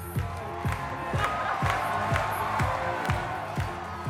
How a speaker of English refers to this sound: That cheering you hear is for Elon Musk. He's dancing on stage at the opening of Tesla's Chinese factory, Giga Shanghai, in 2020.